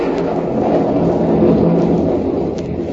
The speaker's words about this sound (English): Not with all this rain coming down. Yeah. Oh, it's really pouring now, isn't it?